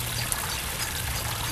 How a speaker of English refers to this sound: Often we'll just come and sit here by the frogs and close our eyes and listen to them. You can hear some running water there as well.